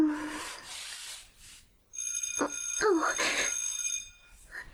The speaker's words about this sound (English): The school bell. That means after school is over.